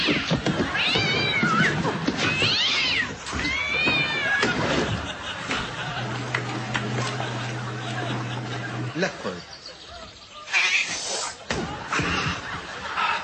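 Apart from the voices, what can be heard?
cat meowing and yowling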